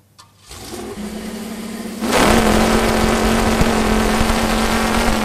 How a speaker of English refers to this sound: decided to build a very special chainsaw recently, one with a V8 car engine.